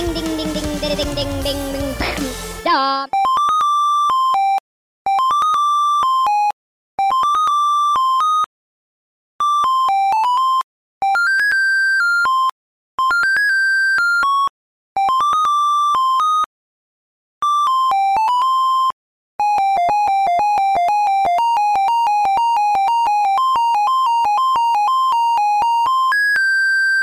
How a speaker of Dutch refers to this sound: Kon ook niet anders met een extra lange ringtoon eigenlijk deze week. Als je deze op je telefoon in zou stellen, dan gaat hij ook wel naar de voicemail voordat je het einde hebt